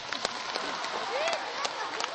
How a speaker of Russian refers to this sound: Так, следующий персонаж у нас будет утка, инструмент гобой, пожалуйста. Аплодисменты утке.